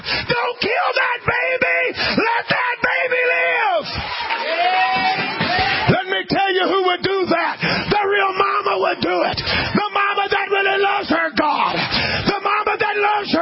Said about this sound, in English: I would hope that everybody in this house would rise on their feet and scream, "No! Let it live! Don't let it die!